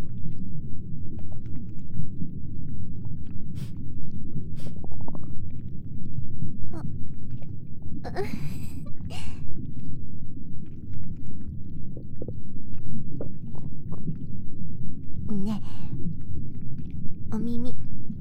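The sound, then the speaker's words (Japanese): Muffled gurgling and deep rumbling from a belly, with bubbly squeaks and a low gassy release, a fart heard through the belly, continuously for about eighteen seconds with no talking. “ごめんね、ちょっとうるさかった。お腹越しのおなら。”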